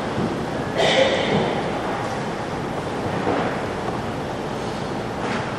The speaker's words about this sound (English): Can I have one of the ushers turn down the exhaust fan a little bit? It's a little loud even from up here.